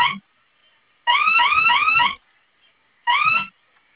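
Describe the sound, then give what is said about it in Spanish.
An electronic alarm sounds inside an office in loud, repeating bursts of a warbling, rising tone, each about a second long and separated by short pauses, with no talking. “No, ahora está Ese. sonando una dentro de la oficina.”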